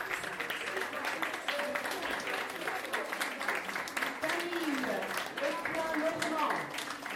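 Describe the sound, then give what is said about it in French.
Steady applause from an audience at a fashion show as the models walk, a dense crackle of many hands clapping, with voices murmuring and a few higher vocal tones rising over it. “Et tous nos défilés, on applaudit. Tous les mannequins défilent.”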